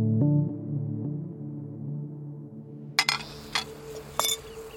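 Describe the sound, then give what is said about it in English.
A few sharp clinks of dishes and glasses, scattered unevenly near the end, follow a sustained ringing tone that hums and fades through the first few seconds, as dirty dishes are collected from an outdoor dining table at the Carney House in Los Angeles at sunset, August 1980. “Joe collected the dirty dishes from the outdoor dining table at the Carney House as the sun set over Los Angeles.”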